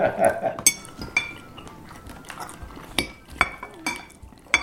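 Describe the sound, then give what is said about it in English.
Cutlery clinks and scrapes against plates in an irregular run of sharp, bright taps, with murmured voices and chewing sounds underneath as people eat. “Although listening to that tape, dude, doesn't that sound gross? I feel like we're eating that horse or something.”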